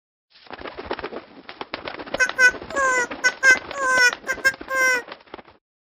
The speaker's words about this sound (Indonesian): Kemudian terdengar suara dari atas kayu. Tetapi yang tampak hanyalah seekor burung.